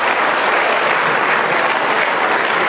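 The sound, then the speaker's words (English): Sustained applause from a crowd, a dense, steady wash of many hands clapping at once, loud and even throughout with no voices standing out. “Wow, you guys clap for that?”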